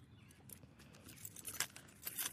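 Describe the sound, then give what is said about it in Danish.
Keys on a key clip that also holds a card jangle in a few quick metallic bursts, light bright clinks, fairly quiet, with no talking over them. “Kan du høre det klirre?”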